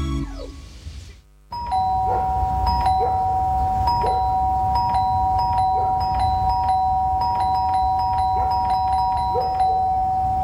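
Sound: doorbell ringing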